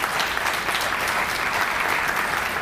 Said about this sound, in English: We've already thanked them for their hard work, but one more little round of applause for that group.